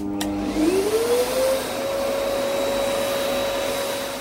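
A vacuum cleaner starts up, its motor whine rising in pitch over about a second, then settles into a steady, loud, continuous drone.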